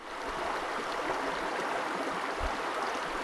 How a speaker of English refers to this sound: This week, that sound of the Smith River at Jack's Creek Covered Bridge in Patrick County, Virginia, opens an episode about fish in schools